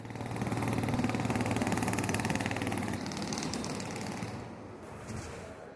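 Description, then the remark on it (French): The small engine of a City Joule urban concept prototype car runs steadily, a loud buzzing drone with a rapid, even putter that eases slightly toward the end. No one speaks. “Et donc vous avez devant vous le véhicule City Joule, qui est un urban concept.”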